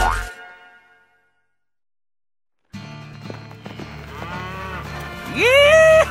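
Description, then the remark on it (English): After a brief sound and a second of silence, cattle on a cattle ranch moo in a string of drawn-out, wavering calls, ending in a loud, rising bellow. “I'm the owner of this here cattle ranch.”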